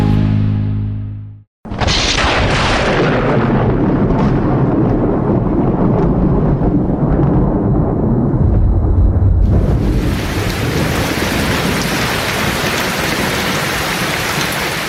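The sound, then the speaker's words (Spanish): A winter downpour accompanied by an electrical storm: heavy rain pours down in a steady, loud hiss, with deep rumbling thunder rolling underneath. A brief opening sound cuts out before the downpour surges in and continues without pause. “Quienes tienen perritos en sus casas saben que para la mayoría de ellos el invierno representa una época en que no se van a sentir cómodos, principalmente cuando los aguaceros vienen acompañados de tormentas eléctricas.”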